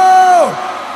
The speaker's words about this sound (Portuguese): Então faz o seguinte: quem tá de bem com a vida dá um grito!